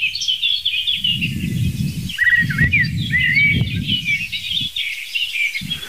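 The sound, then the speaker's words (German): A dense outdoor bird chorus led by a blackbird, with a song thrush singing among other birds in a steady stream of chirps and phrases, while low gusty wind rumble comes and goes underneath. “Nebenrolle, nee, zweite Hauptrolle ist die Singdrossel und dann verschiedene Akteure in den Nebenrollen.”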